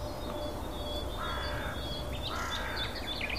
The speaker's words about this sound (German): Und so ein bisschen zeigen uns auch die Krähen, wo der Hammer hängt.